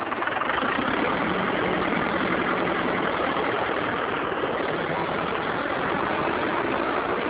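A tractor engine idles steadily and loudly, a continuous rough mechanical rumble that holds an even level throughout with no voices.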